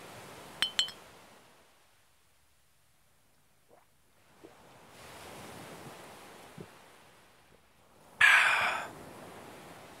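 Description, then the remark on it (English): Two quick, bright clinks of glasses in a toast ring out near the start, then fade into a soft, airy wash of background noise with a few small knocks and a louder rushing burst near the end. “Even more of a reason to drink, I guess. Cheers.”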